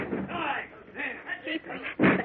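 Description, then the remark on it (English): Muffled voices and shouting give way to a single heavy, booming slam near the end as a group of men ram the door to batter it down in a Batman scene, loud. “Come on, boys. Let the door down.”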